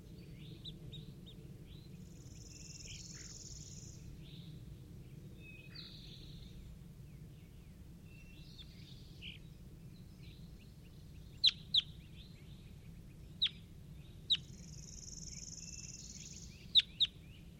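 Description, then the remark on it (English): Repeated high, squeaky bird calls come in short bursts against a steady low rumble, with a few sharp clicks near the end. No one speaks. “Start recording bird 4-3.”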